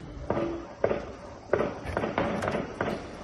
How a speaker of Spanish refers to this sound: Este era en concreto el momento del tiroteo, del asalto a la casa del presidente de Haití.